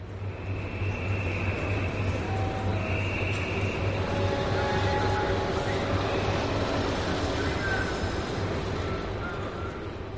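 A car-carrying shuttle train, with drivers sitting in their cars, rolls steadily along the rails toward Calais, France, with a constant, heavy rumble and low droning hum, with thin high-pitched squeals and whines drifting in and out over the ten seconds.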